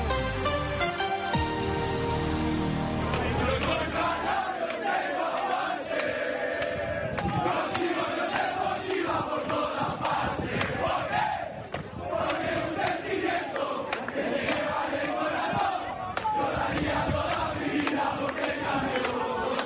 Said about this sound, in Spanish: Pues sí, mañana se oirá este cántico, muchísimos más, el piotemazo, el himno de la Unión Deportiva Las Palmas, durante el transcurso del día y llegados a la hora del partido.